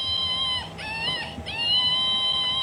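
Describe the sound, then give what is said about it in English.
A toy monkey at the Shanty of Misfit Toys, part of the Art Shanty Projects, lets out a strange, continuous high-pitched electronic screech with wavering, warbling tones that dip and rise twice before steadying, steady in loudness throughout. “And then there's a monkey that has a really weird screech to it.”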